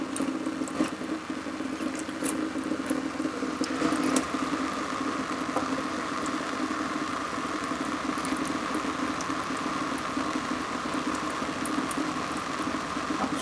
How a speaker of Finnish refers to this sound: Spraytesti on tämmöinen hyvin simppeli. Tää on niinku sade ropisee kankaaseen. Ja sieltä ropisee.